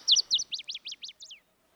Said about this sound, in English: Sorry for talking over the bird. That is a wood thrush, one of the most beautiful songs in all of North America.